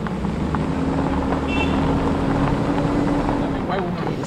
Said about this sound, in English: so bumpy. And we're being thrown back and forth across it and across the car.